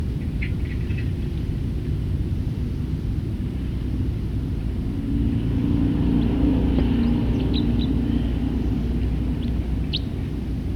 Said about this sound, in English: Stop. Start recording the same bird.